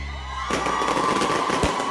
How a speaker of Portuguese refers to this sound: Escuta aí o barulho do foguete.